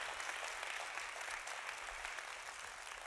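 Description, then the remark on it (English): A church audience applauds Jesus steadily, the dense patter of many hands clapping holding at an even, fairly loud level throughout without pause, with no one speaking over it. “Oh, come on, somebody clap like God's been good to you.”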